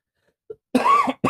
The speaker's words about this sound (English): Excuse me, I'm sorry for coughing legends.